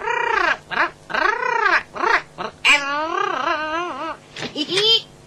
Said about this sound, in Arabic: أنا آسف جدا، إنه طائر جميل ونادر أيضا. هل يتكلم؟ أحيانا.